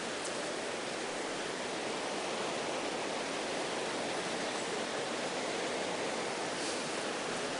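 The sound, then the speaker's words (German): Steady rain hissing without a break, a dense, even wash of noise that stays constant throughout, with no voices and no distinct drops or other sounds standing out. “Hört ihr immer noch etwas außer Regen?”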